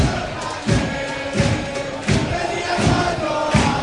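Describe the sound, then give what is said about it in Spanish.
A football stadium crowd at the Ciudad del Epe, during a match between San Roque and Recre, chants in a dense, loud roar, punctuated by steady booming thumps about every three-quarters of a second, five beats in all, with no one talking over it. “El ambiente que se está viviendo ahora mismo en el Ciudad del Epe.”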